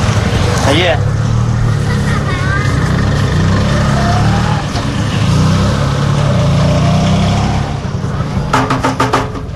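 A quick burst of about six or seven hand thumps on a car body, struck in place of a missing horn, comes at the very end, loud, over a steady rumbling engine that runs throughout.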